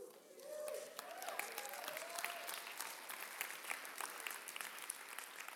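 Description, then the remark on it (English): A crowd bursts into sustained applause, many hands clapping densely and steadily for several seconds, with faint voices and murmurs mixed underneath the fairly loud clatter. “All you that clap need to go read your gospels because that's not what Peter said.”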